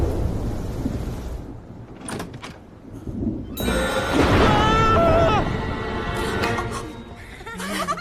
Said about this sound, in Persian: نه، از ترس نیومدیم تو، اومدیم تو چون که داشت بارون میومد.